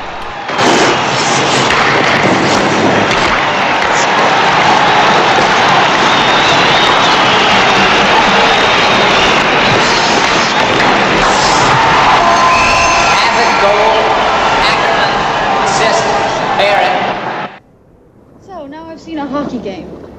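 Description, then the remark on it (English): A hockey crowd roars and cheers loudly and continuously for about seventeen seconds as a player scores a goal and the crowd jumps to its feet, a dense wall of voices and shouts, then it cuts off abruptly, leaving a few faint sounds. “He scores. The crowd jump to their feet.”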